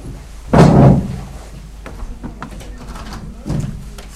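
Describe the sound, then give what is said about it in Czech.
A door is opened with a loud thump and rattle to air out the room, followed by quiet background noise, scattered faint knocks and murmuring, then a softer second clunk near the end. “Nechte třeba otevřené dveře, ať to provětrá se.”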